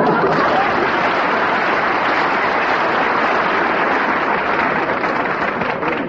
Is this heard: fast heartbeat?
no